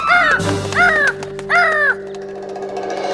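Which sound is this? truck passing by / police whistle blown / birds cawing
birds cawing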